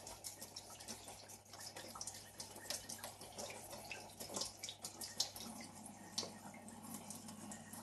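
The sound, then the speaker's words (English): Cold water runs steadily from a tap for several seconds, added a little at a time to make a paste, a continuous splashing stream with small drips and clinks over it, moderately quiet, with no talking. “So a little bit of cold water.”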